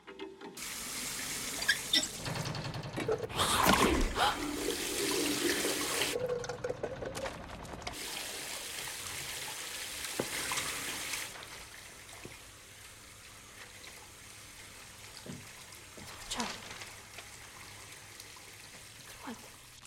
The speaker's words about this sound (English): As Alice fills her jug with water, his supply dries up.